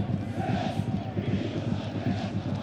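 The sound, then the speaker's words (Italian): Parma football fans jumping and celebrating in the 86th minute of a match, a steady, loud crowd roar with deep rumbling thuds and overlapping voices that holds without a break for the full clip. “Sentite i tifosi del Parma che saltano e festeggiano.”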